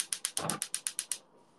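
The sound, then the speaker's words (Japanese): A gas stove burner being lit under a frying pan while making Sapporo Ichiban salt ramen: a quick run of about ten sharp, evenly spaced igniter clicks, with a soft whoosh partway through, then fading into a faint steady hiss. “火をつけます。”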